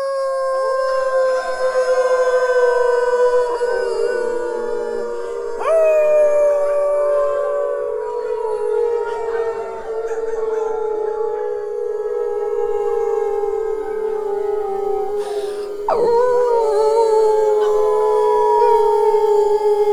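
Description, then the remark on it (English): Several people howl together imitating wolves, long sustained wavering tones that slide slowly downward, overlapping and swelling over about twenty seconds, loud. “we need the Wolfman Jack howl. I know you all want to do it.”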